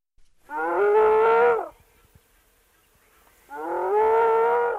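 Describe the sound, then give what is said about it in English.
A spotted hyena named Pan, hidden in a hole in the ground near a river in Kenya, gives two long, loud, distressed-sounding whoops, each a drawn-out tonal call with a slight upward rise, separated by a couple of seconds of near silence. “It was a pretty distressed-sounding whoop.”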